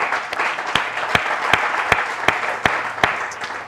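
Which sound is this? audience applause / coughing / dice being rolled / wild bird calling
audience applause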